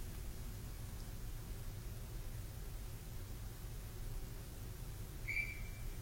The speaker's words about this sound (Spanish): Pero, oye, ese silbato de árbitro, ¿qué onda, eh? ¿Así suena o qué? Me rechina más la rodilla a mí.